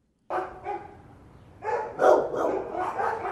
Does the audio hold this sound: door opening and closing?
no